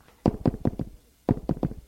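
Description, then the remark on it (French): Someone knocks on a door in two quick sets of four firm raps, separated by a short pause. The knocks are solid, with no voices. “On frappe à la porte.”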